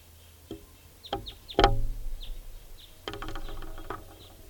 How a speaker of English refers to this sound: Giving alarms and toots now. There's the alternate type 2 call. Alternate.